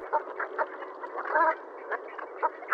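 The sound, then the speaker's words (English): A flock of geese gives soft, low, almost soothing murmuring calls, several overlapping in an uneven stream with occasional slightly louder notes, with no voices. “Their soft, almost soothing calls are a far cry from the harsh honks of the Canadas.”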